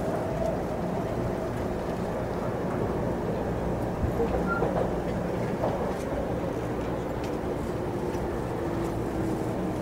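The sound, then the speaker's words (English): Inside a commuter train stopped at Shibuya station, going on to Shinjuku, a steady low rumble and broad hum fill the space, with faint clicks and shuffles over a continuous, even background. “And this time we're going to stay on the train all the way to Shinjuku.”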